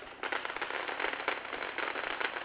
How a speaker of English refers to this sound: The fireworks is crazy in the hood, babe. Yeah, that's how it's supposed to be, man.